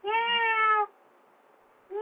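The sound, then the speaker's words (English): A female cat lets out a long, clear meow as she comes in, then falls quiet before starting a second meow that is cut short at the end. “Meow. Meow. Oh, she came in.”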